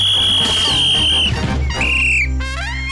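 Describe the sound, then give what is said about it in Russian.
A shrill referee's whistle sounds loud in a long blast during a football match, stopping foul play, then a shorter second blast, followed by quick squeaky rising chirps over a busy background. “Возмущенный свисток судьи прерывает это безобразие.”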